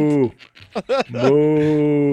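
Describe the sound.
Cows mooing in a YouTube video, with a short low moo at the start and a longer, steady drawn-out moo at the end, separated by a brief burst of voice-like sounds; the cows had escaped a slaughterhouse and were being chased.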